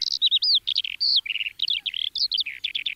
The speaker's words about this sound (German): Klingt nicht so richtig nach Lerche. Zeigst du mir mal, wie es richtig klingt?